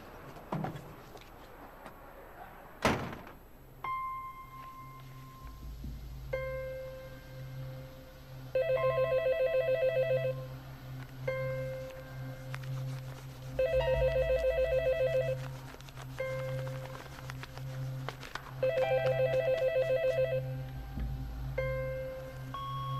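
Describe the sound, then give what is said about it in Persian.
A telephone in a home rings in three long, trilling bursts separated by pauses, going unanswered, with a low steady hum and a sharp knock near the start. “الو الو الو گوشی رو بردار. میدونم که خونه‌ای. گوشی رو بردار.”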